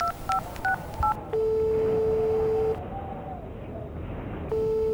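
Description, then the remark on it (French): A quick run of four beeping telephone keypad tones as someone dials a friend, followed by a long, steady ringing tone that stops, then starts again after a pause. Clear, with no voices. “Ouais, j'appelle un ami à moi.”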